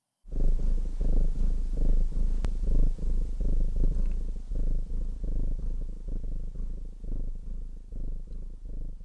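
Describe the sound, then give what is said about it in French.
A contented cat purrs steadily, a deep rhythmic rumble pulsing with each breath, continuous for several seconds with no voices. “Mon chat est content.”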